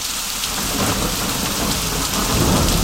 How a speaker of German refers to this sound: Wenn Sie das nächste Mal einen Regenschauer oder Gewitter erleben, dann fällt Ihnen vielleicht der Gedanke von heute Vormittag ein.